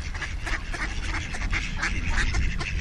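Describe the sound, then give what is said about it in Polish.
A cluster of ducks quacks repeatedly and overlapping as they are fed in Kalisz, with a steady low rumble of outdoor background noise underneath and no talking. “Rzeczywiście kaliszanie karmią ptaki wodne chętnie, nie zawsze rozsądnie.”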